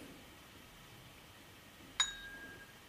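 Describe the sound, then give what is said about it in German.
A single sharp glassy clink as a glass knocks against a microphone, against a quiet background, with a short bright ringing tail that fades within about half a second. Fairly loud, no talking. “Nee, mit Glas ans Mikro angestoßen.”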